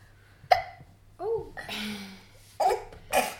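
A baby hiccups four times at uneven intervals, each a sharp, squeaky little catch in the throat, close by, with soft breathy noise between them.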